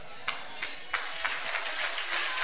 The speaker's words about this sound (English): Oh, you can clap those hands.